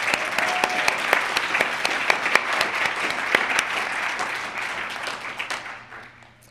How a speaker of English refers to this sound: I really would like to give him a round of applause for that.